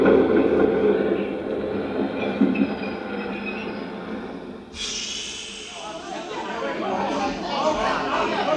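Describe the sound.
Ambience of the 59th Street subway station, with a train rumbling through and a loud hiss and screech of wheels bursting in midway, all under a constant low roar, with faint voices murmuring.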